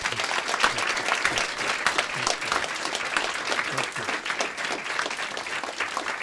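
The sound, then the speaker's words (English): Sustained applause from an audience of Fresno Christian High School students, a dense, steady patter of many hands clapping at an even loudness for several seconds without pause. “The applause went on and on, but that's more than just a courtesy clap.”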